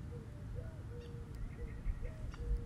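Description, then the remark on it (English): A mourning dove coos softly in the morning, a few low, hollow notes drawn out and repeated over a quiet outdoor background with a faint low rumble. “I notice the mourning dove has stopped singing. Ah, there she is.”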